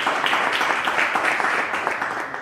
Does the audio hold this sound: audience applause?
yes